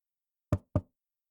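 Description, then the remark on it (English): Two quick, solid knocks on a roommate's open wooden door, fairly loud, spaced a quarter second apart, with silence before and after. “Knock knock. Hey, Roomie. Sorry, your door was open.”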